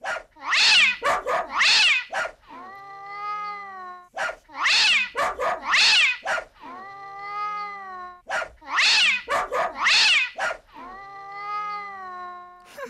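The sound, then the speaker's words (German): A cat meows in a repeating rhythmic pattern: clusters of short, harsh bursts followed by a long, drawn-out wavering meow, cycling three times, loud with no talking. “Wuff, miau, wuff, muff, miau”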